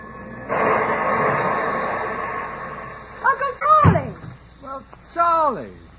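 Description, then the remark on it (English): A train rumbles and hisses steadily as it comes to a halt at a station, followed by a sharp door slam while people begin talking over the fading noise. “Look, Pops, the train stopped.”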